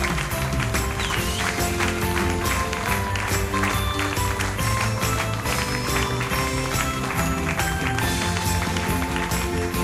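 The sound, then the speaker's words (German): Steady, rhythmic hand clapping keeps a beat over loud, dense music at a show in Bad Nauheim, the sharp claps running continuously throughout without pause. “Sind wir bei Wette das oder was, dass ich so halb Stunde lang klatsche?”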